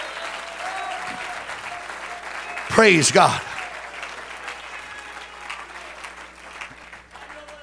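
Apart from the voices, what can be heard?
audience clapping hands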